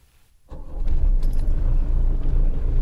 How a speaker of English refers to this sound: I believe I hear the purr of the engine as it begins another day of service. This is one dependable car, I gotta say.